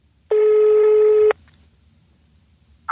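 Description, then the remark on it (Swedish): A single buzzy telephone ringing tone of an outgoing phone call sounds steadily for about a second, loud, then cuts off into near silence with a brief noise at the very end. “Vi ringer Ove Rytter.”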